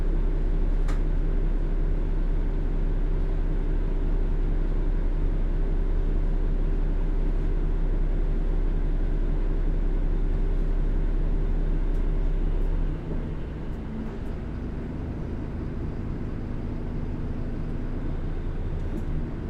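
Steady low engine drone and road rumble inside a Keio city bus approaching its final stop, Nakane Station, loud and continuous, with the hum easing and changing pitch partway through as the bus slows. No one speaks.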